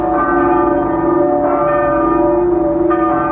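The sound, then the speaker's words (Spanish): A church bell rings loudly, struck in a slow, steady rhythm with each stroke blending into a long, humming resonance that never fully fades. “Esta campana rota quiere, sin embargo, cantar.”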